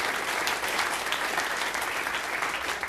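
A church audience applauds together for a long-serving volunteer who counts the offering money, a dense, steady wash of many hands clapping at once, loud and even for about three seconds with no one speaking over it.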